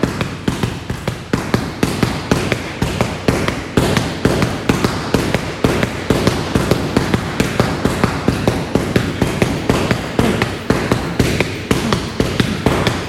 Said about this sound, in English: Going to start off with just straight punches continuously in at close range until you take care. Get it set. Straight punches non-stop in close range.